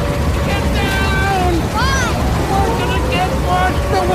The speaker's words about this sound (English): Go! Go! Here comes the water!